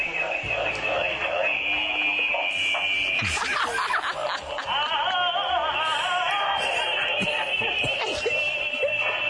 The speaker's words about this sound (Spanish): A ver, esto es lo que suena en mi móvil cuando me llaman.